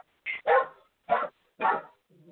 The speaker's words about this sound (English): I'm going to try to sing over the dog if I can. I'm going to get my little lady up. That's Pierre. Pierre wants to sing too.